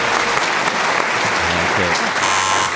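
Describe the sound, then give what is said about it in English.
A late buzz from a quiz-show contestant: a steady electronic buzzer sounds for the last half-second, a flat, bright tone cutting through continuous loud applause that fills the whole clip. “A late buzz from Lou.”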